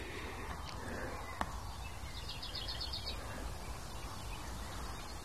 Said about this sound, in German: Aber dafür höre ich zwei andere besondere Vögel. Den einen wollte ich unbedingt nochmal aufnehmen und an den werde ich mal versuchen, mich jetzt ein bisschen ranzupirschen.